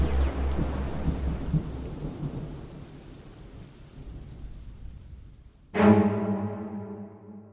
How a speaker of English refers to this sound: And why is it suddenly raining so hard? Dear God, the rain all over the city is black.